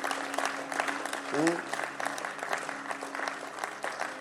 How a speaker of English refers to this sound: So we thank God for Bishop Dag. Hallelujah. Our daddy. Clap unto Jesus for his life.